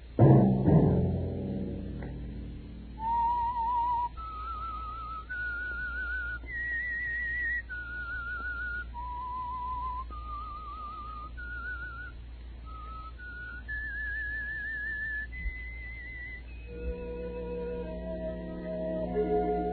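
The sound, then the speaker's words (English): A lone person whistles a slow, wandering melody of sustained notes, clear, with soft orchestral music swelling in underneath toward the end. “Let that whistle be your signal for the Signal Oil program, The Whistler, each Monday at 9.”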